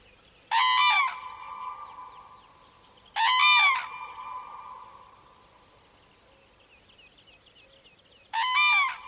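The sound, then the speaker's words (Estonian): Common cranes calling as a pair in a duet in a quiet bog in the morning: three loud, harmonically rich bursts of overlapping trumpeting, each under a second, spaced irregularly over a quiet background with no talking. “Sookurgede paari süüd ehk duett hommiku vaikses rabas.”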